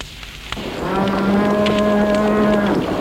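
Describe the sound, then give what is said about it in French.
A cow lets out one long, loud moo lasting about two seconds over a steady rumbling background noise, with no voices, as cows stamp their hooves in a building where hay has caught fire. “Les vaches meulent et trépignent du pied.”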